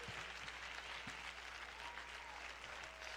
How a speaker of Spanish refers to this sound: denle un aplauso al Rey de Gloria, por favor.